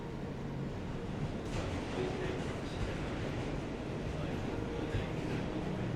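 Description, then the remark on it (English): A subway train rumbles steadily as another train passes going the other way, with a brief whooshing surge early on over the constant low roar of the carriage. “A train next to us is going in the other direction.”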